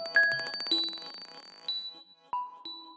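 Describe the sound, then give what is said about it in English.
At the beginning of a contemporary track from a London label, bright glassy clicks of a bouncing glass marble sound, out of time with the music, the taps speeding up as they shrink, mixed with ringing high pings and sustained tones, followed by a few isolated chime-like hits. “Actually, I realized now there was almost like a little bird call, but then it sounds like a glass marble, and it's obviously not in time. It's got this exponential, like it's bouncing like with gravity.”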